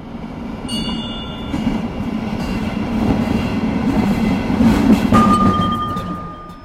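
A rattling ride in an old tram with almost entirely wooden panelling, a wooden floor and slatted seats: a steady low rumble of wheels on rails, broken-band clatter and faint clicks, thin metallic whines and a brief high squeal rising near the end; no voices.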